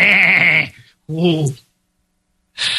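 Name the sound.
goat bleating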